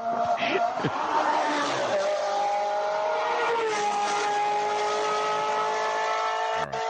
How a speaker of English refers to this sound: But first, play the sound of the Ferrari going around a racetrack so the people know what I'm talking about. I love the sound of Ferraris in the afternoon. Play that sound one more time.